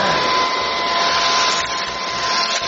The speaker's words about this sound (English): Sure, baby was vacuuming and he vacuumed up the pieces to the bracelet,